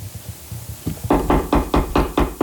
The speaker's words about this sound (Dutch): Waar komt dat kloppen vandaan?